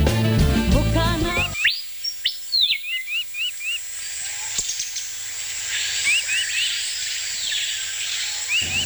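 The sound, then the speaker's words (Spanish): Amazonian birds of Guaviare call repeatedly in the Amazon rainforest, with quick rising whistles and chirps in short bursts over a steady hiss of insects, after a brief opening of music. “¡Qué súper chévere escuchar los sonidos de la selva amazónica! Las aves amazónicas del Guaviare que vuelan por lo alto encima de esos árboles verdes, frondosos, majestuosos que tiene la riqueza amazónica de este bello territorio”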